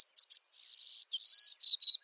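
A woodland songbird of the Americas sings a high, buzzy phrase: two quick chips followed by several drawn-out, insect-like buzzy notes, clear with no other sounds around it.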